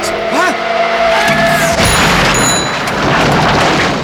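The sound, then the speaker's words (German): A car skids with a rising squeal, then slams into something with a loud crunching impact, followed by shattering glass and debris tinkling and scattering for a few seconds. “Bob hatte das Gefühl zu fliegen, während die Welt um ihn herum in Millionen Scherben zerbrach.”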